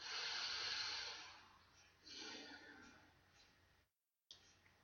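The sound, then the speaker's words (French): An audible deep breath: a long airy inhale followed by a slower, softer exhale, breathy and hissing, then a brief moment of silence. “Prenez une profonde respiration et répétez après moi.”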